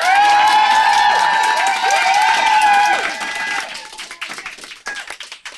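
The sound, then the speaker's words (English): A live studio audience at the Pleasure Chest applauds and cheers loudly, with high whoops and shouted voices over dense clapping, then the noise thins into scattered claps that fade out. “As you can hear, we have a great crowd and we are so excited.”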